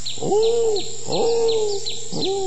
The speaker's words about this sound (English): Oh, it's just an old owl.